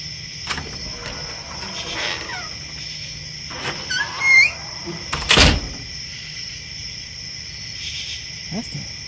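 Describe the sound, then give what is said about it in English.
The back door of a house opens in the distance at night with a few creaks and a dull knock, set against a steady chorus of crickets and insects in the night air. “That's the back door to the house.”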